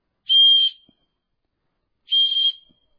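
Two short, shrill blasts on a whistle, each lasting about half a second, separated by a brief pause of silence. Loud, with no voices.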